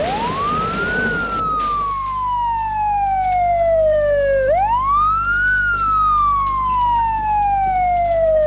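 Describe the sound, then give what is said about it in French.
A police car siren wails loudly, its pitch sweeping up, then sliding slowly down before rising again, over a low steady engine rumble. No one speaks. “Cinq minutes plus tard, ils entendent les sirènes de la police.”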